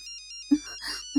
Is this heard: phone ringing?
yes